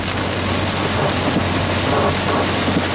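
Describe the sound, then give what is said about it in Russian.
A heavy downpour of rain pours steadily, a dense, continuous, loud hiss with no voices over it and no letup across the few seconds. “Разверзлись хляби небесные.”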